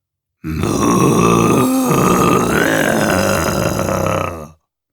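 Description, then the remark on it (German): A long, low, guttural moaning from a herd of six undead Jersey cattle, sustained for about four seconds with rough, growling overtones and a brief dip partway through, loud and alone with no talking. “Der Rest der Herde schloss sich ihr in einem markerschütternden Stöhnen an, das aus den schwefligen Tiefen der Hölle selbst aufzusteigen schien.”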